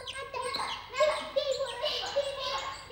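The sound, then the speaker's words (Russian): High, squeaky chirping and squabbling like quarrelling sparrows, sounding like a voice imitating them: several quick agitated calls overlap in a busy burst lasting a few seconds. “Вот что кричали воробьи.”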